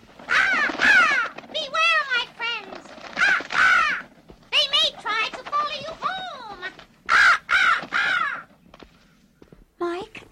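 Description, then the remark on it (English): A raven caws in a long run of loud, harsh, croaking calls, irregular bursts repeating for several seconds with brief pauses between them. “There's that raven again.”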